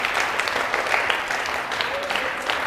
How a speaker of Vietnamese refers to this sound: Nếu muốn thì cho một tràng vỗ tay thật là lớn nè.